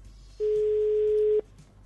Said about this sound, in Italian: Sentiamo. Arriva lo squillo.